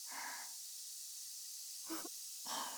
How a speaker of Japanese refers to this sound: 耳の中に泡が広がる音と炭酸のシュワシュワした感じが響いてきて新鮮です。